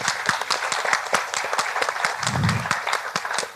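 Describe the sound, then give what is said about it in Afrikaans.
An audience applauds Saartjie Botha, called the heroine of the past week, who has just joined them: many hands clapping in a dense, continuous patter with sharp individual claps standing out, sustained at an even, fairly loud level throughout. “En ons verdien, jy verdien een ander klap.”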